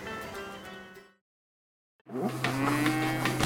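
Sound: cow mooing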